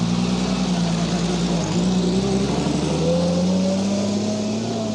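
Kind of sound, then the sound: vehicle, car driving away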